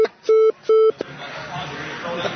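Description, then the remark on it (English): A censor beep: a few short, steady mid-pitched tones cut in and out in quick succession, followed by a muffled stretch of voices and background noise. “Beep all this out.”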